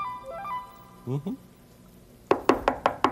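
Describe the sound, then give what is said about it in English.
A short electronic melody of stepping tones and a brief vocal sound, then five sharp, evenly spaced, loud knocks on a door in quick rhythm. “Somebody at the door. Let's see who it is.”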